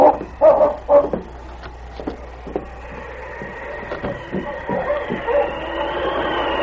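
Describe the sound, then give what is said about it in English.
Several dogs bark and yelp in a chaotic fight by a creek bank, sharp bursts tumbling over one another before settling into a continuous snarling, whining din. “The dogs were still in a tangle, and the girl still lying in the snow.”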